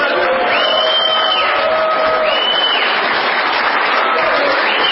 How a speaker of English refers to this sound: The robust applause, by the way, is from sheriffs from around the country.